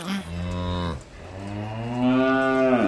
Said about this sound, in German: Mei, also so eine Kuh ist schon ein prächtiges Tier. Schau, wie laut sie mut und wie schön ihr Fell in der Sonne glänzt.